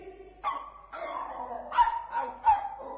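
A dog chasing a boy barks repeatedly in short, sharp bursts, about five barks in quick succession with a slightly whining, yelping edge, loud and alone with no talking.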